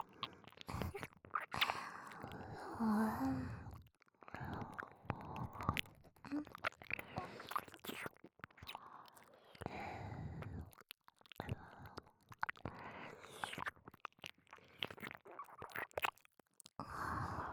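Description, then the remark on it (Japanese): Soft, wet licking and mouth sounds in an ASMR recording, an irregular stream of smacks and slurps, broken by a few brief pauses, with no talking. “こういう舐め方、結構感じません？”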